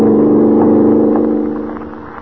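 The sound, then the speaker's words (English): A car engine roars loudly at high revs as it drives at better than a mile a minute through the darkness over a drawbridge, a steady droning whine that holds, then begins to fade as the vehicle speeds away, with no voices. “Yes, there they go at better than a mile a minute, hurtling through the darkness over a drawbridge that shows a green light, but is wide open with only the deep, swirling river below.”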